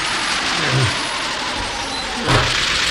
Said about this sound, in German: Das hört sich aber gar nicht gut an. Das klingt, als wäre der Motor im Leerlauf. Wenn er so weitermacht, geht er noch kaputt.